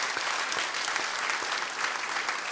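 A steady burst of audience applause, many hands clapping in a dense, even patter that holds at a constant level throughout, with no voices standing out.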